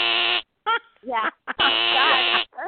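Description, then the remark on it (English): A harsh, nasal game show wrong-answer buzzer blares twice, a short blast and then a longer one. Brief voice-like bursts fall in the gap between them. “But I do that love actually, that buzzer.”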